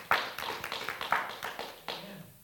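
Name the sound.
audience clapping hands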